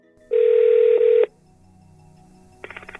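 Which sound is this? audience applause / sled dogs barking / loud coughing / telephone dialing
telephone dialing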